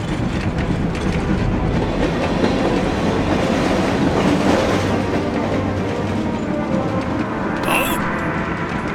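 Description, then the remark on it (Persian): A moving train rumbles and rattles loudly and steadily, then a sharp metallic screech near the end as a wagon breaks loose from the rest of the train. “یکی از واگن‌ها جدا شده.”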